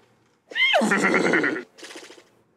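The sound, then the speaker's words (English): A human voice does a loud horse whinny imitation: a high, wavering squeal that drops into a rough, shuddering neigh, followed by a shorter, softer snort-like burst. “Is this a horse? Or is it Michael Winslow from Police Academy?”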